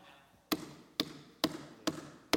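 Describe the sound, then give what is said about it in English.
Five firm knocks on a door, evenly spaced about half a second apart, each a sharp, fairly loud rap with a short ring, and no voices present. “And he knocks on your door.”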